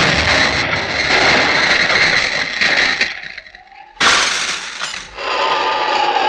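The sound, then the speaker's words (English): A mine explosion breaks the window of a cottage: a loud, roaring blast with crashing, shattering glass. Three seconds of dense noise fade briefly, then a sudden second burst hits and rumbles on to the end. No one speaks. “That is the explosion that broke the window of the cottage.”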